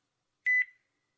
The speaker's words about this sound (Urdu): یا کریم پاکستانی کال آ رہا ہے.